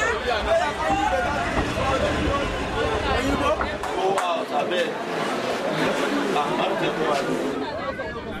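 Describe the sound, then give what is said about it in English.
A dense murmur of many overlapping voices, steady and fairly loud, from a crowd waiting in a long line to buy train tickets in Lagos, Nigeria, for the train to Kano, with occasional sharp knocks and clatters cutting through. “Three hours earlier, the line to buy train tickets is already long.”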